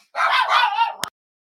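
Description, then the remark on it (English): A dog in an office barks in one short, yelping burst of about a second, fairly loud, cut off abruptly by a sharp click, with no one speaking. “Now I have barky dogs in my office.”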